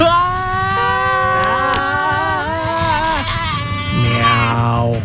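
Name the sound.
people screaming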